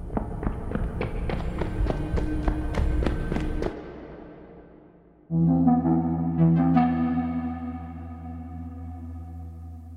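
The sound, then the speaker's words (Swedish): Heavy, rapid footsteps of someone running along a corridor toward the listener pound on a hard floor for a few seconds, a quick steady rhythm of thuds growing louder and faster. After a short pause, unrelated music begins. “Tunga fotsteg längre bort i gången. De blir högre och snabbare. Någon springer rakt mot mig.”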